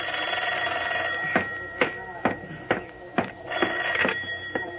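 A telephone rings with a rapid series of sharp bell strikes, about two per second, over a steady tonal hum. It sounds fairly loud, with no one talking.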